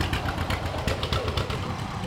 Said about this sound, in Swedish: Ja, här kommer en gammal John Deere, en liten en, grön och gul. BR. Ja. Den heter Bertil Rickard. Det hörde du på motorljudet? Ja.